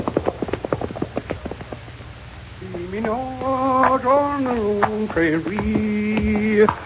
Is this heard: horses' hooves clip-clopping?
yes